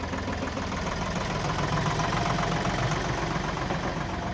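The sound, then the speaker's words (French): A tractor engine idles in a field, driven by a gardener trained to drive it, a steady, loud, rumbling drone with a faint knocking vibration running unbroken throughout, with no voices. “qui a été formé à la conduite du tracteur, qui est un jardinier chez nous en insertion et qui va rejoindre ses collègues qu'on voit au fond du champ là-bas.”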